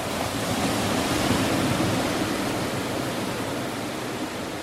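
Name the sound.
ocean surf waves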